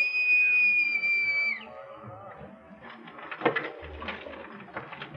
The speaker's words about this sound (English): Very well. Bosun, pipe the boat. Aye, aye.